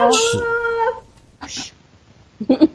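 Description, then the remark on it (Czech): A dog that has jumped on a person lets out a high, drawn-out whimper lasting about a second, followed by brief bursts of people talking. “Ježíš, na mě tady skočil pes.”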